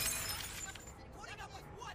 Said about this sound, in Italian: I miei pensieri sono interrotti da un rumore di bicchieri rotti.